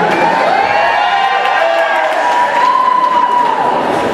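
A large crowd at an event shouts and cheers without pause for about four seconds as countries are called out in turn, a loud, dense roar with individual voices whooping and calling out above the mass of noise.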